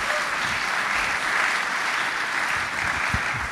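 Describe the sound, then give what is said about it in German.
A short burst of applause for Germany's women sprinters winning the first gold medal in Glasgow: dense, steady clapping from a group fills the whole stretch at a fairly even, moderately loud level, with no voices standing out. “Kann man mal kurz, Zwischenapplaus, kurz bitte?”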